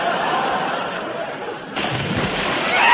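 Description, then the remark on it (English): A loud, broad splash of someone falling into water, followed by continued sloshing and churning, with faint laughter in the background. “I'm drowned in a dead in water.”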